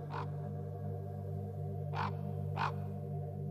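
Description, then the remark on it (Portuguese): Three harsh, hoarse croaks from several ravens, some perched and some performing aerial acrobatics: one early, then a closer-spaced pair near the end, heard over a steady low droning hum in the background. “Estamos a observar vários corvos, uns pousados, outros em acrobacias aéreas que encantam qualquer espectador.”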